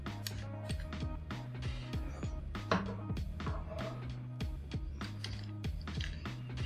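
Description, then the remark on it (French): Clicks, snaps and rattles as a piece of paper and a battery are pulled out of a small camera, scattered irregularly over a steady low tonal background with no voices. “On va enlever le bout de papier. Ah ouais, là, la batterie, elle va-tu sortir?”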